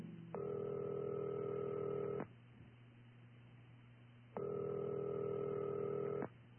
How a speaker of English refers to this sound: Since I didn't know anybody else there, I used my one phone call to reach out to him, hoping he could help me.